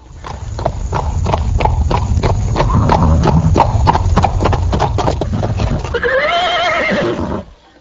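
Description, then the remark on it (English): Steady, rapid hoofbeats clip-clop loudly over a low rumbling background as horses draw a chariot driven by Kamsa, son of King Ugrasena, for his sister Devaki and her new husband, surrounded by hundreds of golden chariots; then a horse lets out a long, quavering whinny near the end before the sound cuts off. “Kamsa, the son of King Ugrasena, in order to please his sister Devaki on the occasion of her marriage, took charge of the reins of the horses and became the chariot driver.”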